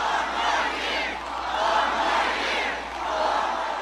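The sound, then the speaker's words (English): An outdoor crowd estimated by fire officials at 15,000 cheers on President Obama continuously, a dense wash of many voices swelling and easing in waves with no single speaker standing out. “An outdoor crowd estimated by fire officials at 15,000 cheered on the president.”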